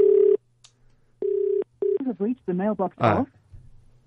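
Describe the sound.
A few steady electronic phone tones beep in separate bursts, clear, like a call being dialed, followed by a short stretch of someone talking.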